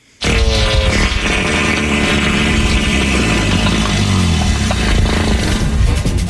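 A loud, drawn-out fart sound effect bursts in abruptly and rumbles on for several seconds, low and raspy with a steady flutter, with no one talking over it.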